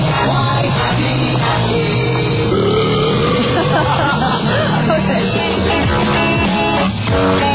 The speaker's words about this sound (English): I can assure you. It was just a belch. That was 3 o'clock in the morning, a live jock.